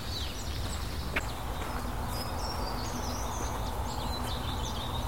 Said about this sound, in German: Die Meisen regen sich auf.